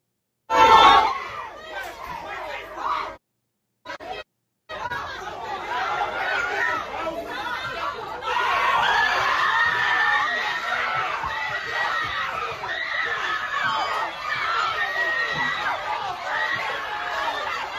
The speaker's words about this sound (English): A video posted Tuesday captured a chaotic fight among a large crowd of young people.